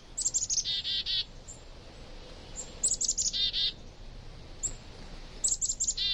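Songbirds in a winter flock chirp in three bursts of quick, high, bright notes, each a rapid series of tweets followed by short pauses, over a soft background hush. No one speaks.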